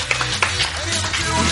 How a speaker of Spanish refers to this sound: Un aplauso para Julius, por favor.